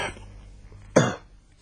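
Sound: coughing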